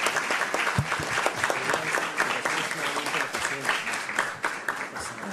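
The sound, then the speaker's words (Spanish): A crowd at an event held parallel to the World Bank events breaks into steady, sustained applause for a speaker's courageous life testimony, many hands clapping densely at an even loudness for several seconds with no pause. “aunque sea trillado volver a hacerlo, brindarle un fuerte aplauso por su valeroso testimonio de vida.”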